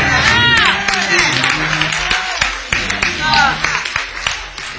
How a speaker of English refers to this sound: If you want to clap your hands, clap your hands.